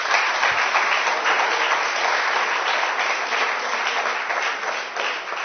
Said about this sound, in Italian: Quindi questo lo voglio riconoscere, vorrei fare un applauso a questi ragazzi.